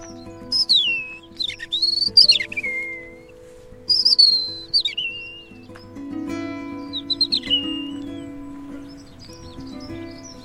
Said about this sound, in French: Ah, accenteur mouché, c'est une autre espèce qui répond. C'est un petit accenteur, juste là, le petit oiseau gris, crie comme une souris.